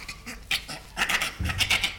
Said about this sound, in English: All right, well, let's listen to the bonobo.